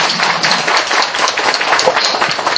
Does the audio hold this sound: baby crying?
no